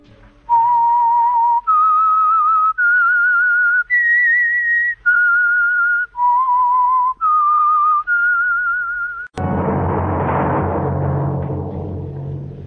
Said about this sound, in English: That whistle is your signal for the Whistler.